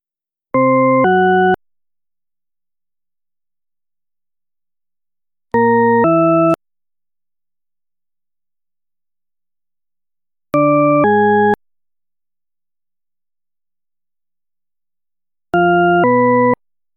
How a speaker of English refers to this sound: If the second tone sounds higher, draw an upward arrow on your answer sheet to indicate an ascending pattern. If the second tone sounds lower, draw a downward arrow to indicate a descending pattern. Now here goes.